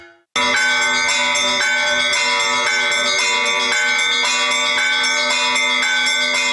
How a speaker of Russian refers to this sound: Кроме того, высота звука может меняться в процессе звучания. Два одинаковых по размеру и весу колокола будут звучать похоже, однако оттенки их тембров все равно будут отличаться.